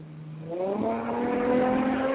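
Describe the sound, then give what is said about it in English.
A voice mimics driving a sports car, a buzzy engine-like drone whose pitch climbs steadily and holds, fairly loud and steady for about two seconds with no other talk. “Y'all hear me driving this sports car I'm thinking about buying.”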